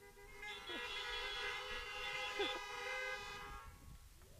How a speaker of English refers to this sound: And all God's people honked.